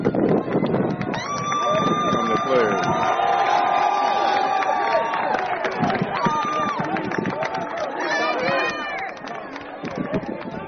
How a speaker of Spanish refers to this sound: Porque la locura por Tiger está en sus niveles más altos. Escucha al público de Miami cómo aclamaba al ganador del Cadillac, por favor.